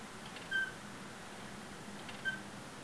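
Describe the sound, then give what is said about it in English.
A man's own chair squeaks twice in his recordings, short, thin high-pitched creaks about two seconds apart, over a low steady background hiss with no talking. “It's my chair.”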